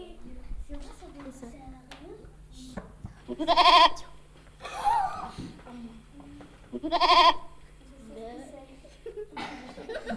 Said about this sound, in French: Une chèvre.